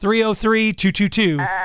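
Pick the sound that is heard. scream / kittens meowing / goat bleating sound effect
goat bleating sound effect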